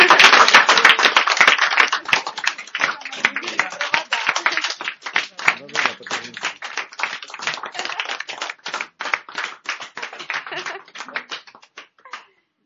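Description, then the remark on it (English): An audience breaks into applause for a speaker, loud and dense at first, then gradually thinning into scattered individual claps before dying away after about twelve seconds. “Let's maybe поаплодируем.”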